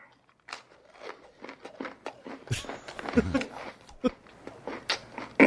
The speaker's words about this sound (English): Let's just listen to the guy eat for a moment.